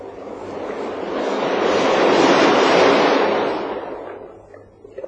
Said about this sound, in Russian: Эти записи я сделал холодным ветреным днем в бухте близ Геленджика.